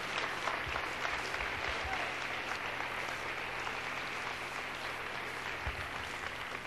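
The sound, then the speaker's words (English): Steady audience applause fills the whole stretch, a dense, even patter of many hands clapping at a constant loudness, with a faint murmur of voices underneath. “Come on, clap.”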